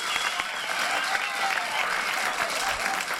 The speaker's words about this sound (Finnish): Hurjaa menoa lennonjohdossa. Kaikki hurraavat ja hyppivät taas pöydillään.